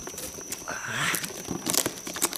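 Sticky tape is ripped off a package in short, scratchy bursts, a crackling peel followed by quick rasping tears, fairly loud, with no one speaking.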